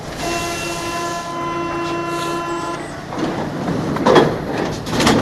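A Paris metro train on Line 13 pulls in at the Porte de Clichy terminus with a steady, droning electric whine, followed by sharp bursts of hissing and rattling as the doors slide. Fairly loud, with no voices.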